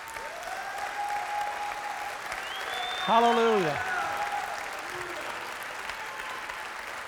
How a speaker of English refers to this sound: My, what a powerful weapon it is to clap your hand. It's like a thunderclap against the enemy. You break his power.